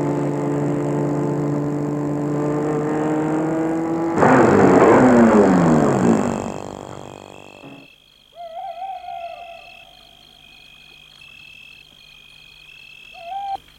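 A car engine rumbles as the car drives up to a large villa on a quiet residential street and cuts off as the vehicle stops, after steady owl hoots at night; faint chirping calls follow in the quiet.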